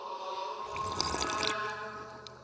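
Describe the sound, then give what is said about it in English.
A wet slurp of someone sipping hot ginger tea, a single liquid draw lasting about a second, quiet but distinct against a faint steady background hum, with no voices. “And we're also drinking some tea today.”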